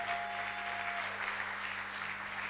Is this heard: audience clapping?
yes